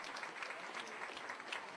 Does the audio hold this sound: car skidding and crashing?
no